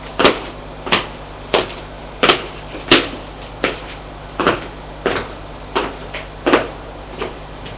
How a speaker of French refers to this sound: Ouvre la porte, éclaire. Elle entre.